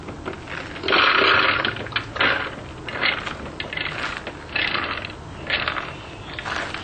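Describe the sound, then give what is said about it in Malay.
Soaked dal lentils, drained of water, spill into a blender jar in a series of rattling, clattering bursts, fairly loud, with short pauses between pours and no talking. “Masukkan kacang dal ini ke dalam blender tanpa air.”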